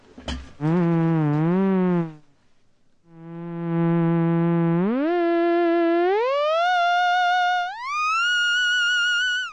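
A theremin, played by moving the hands near its antennas, sounds a buzzy, harmonic-rich tone that starts with a wobbling vibrato made by shaking the hand, falls briefly silent, then steps upward in pitch through several sustained notes, each gliding smoothly into the next.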